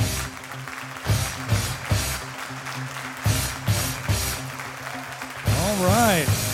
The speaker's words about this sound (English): let's stand up on our feet and give a big hand clap to Clay Clark